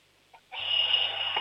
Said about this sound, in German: Boah, das ist aber eine schrille Klingel. Cool.